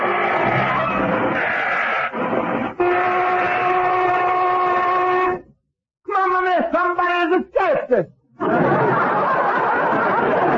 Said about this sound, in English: That's a lunch whistle, Basco. Okay, boys, take 30.